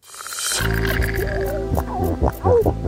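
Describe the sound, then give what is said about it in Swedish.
Deep, rumbling grunts and growls from seals underwater, loud, with gurgling low tones and a few rising moans layered over a steady murky background. “Sälar som knorrar.”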